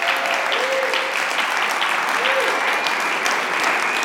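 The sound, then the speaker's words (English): A crowd at a Lifelinks camp claps as a shout-out, steadily for about four seconds, a dense, even wash of applause at a constant loudness, with a couple of faint whistles or voices rising briefly above it. “I mean, obviously we'll thank them at the end, but let's just give a clap.”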